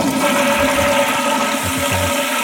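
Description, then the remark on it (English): A toilet flushes with a steady, loud rush of water, a gurgling drain churning underneath and a faint tonal hum running through it. No one speaks. “Because that one, it needs to go all the way down. Yeah. I like the water drips at the end.”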